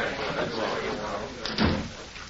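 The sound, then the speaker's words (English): A door swings shut with a single heavy thud about three-quarters of the way through, over a steady bed of murmuring voices and background noise. “Then close the door.”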